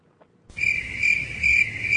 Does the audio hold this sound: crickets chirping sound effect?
yes